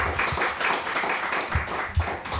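Steady audience applause with many hands clapping at once, a dense, continuous patter that holds fairly loud throughout with a few sharper individual claps popping out.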